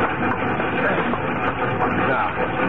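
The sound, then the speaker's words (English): A train runs steadily along the rails, a loud, continuous rumbling clatter that holds at one level from start to end with no break or pause. “Just be sure to meet me with Diablo when the train slows down for the other horseshoe curve at Pilgrim Point.”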